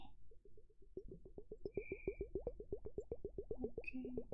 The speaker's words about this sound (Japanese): それをひっくり返すとお水のいい音がするので、まずはこちらをやっていきますね。どうですか？いい音しますか？コポコポコポーってお水の音。